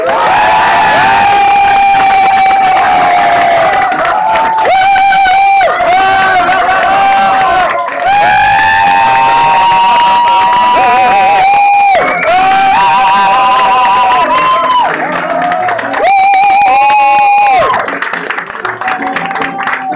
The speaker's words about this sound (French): On applaudit deux fois plus fort, mesdames, messieurs, on va applaudir deux fois plus fort,